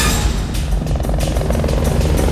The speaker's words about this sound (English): A police helicopter flies over the sunny city.